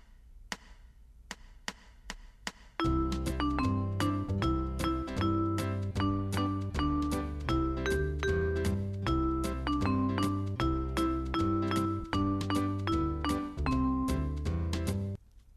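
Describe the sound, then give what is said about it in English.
Playback in Band in the Box music software of notes typed in on a computer keyboard: about a dozen sharp count-in ticks, then steady, evenly rhythmic synthesized music with chords and a bass line for about twelve seconds, with no talking. “Now we can play back what we recorded.”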